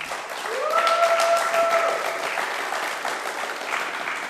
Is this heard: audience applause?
yes